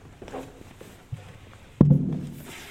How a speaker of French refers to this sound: On met la chaise à côté.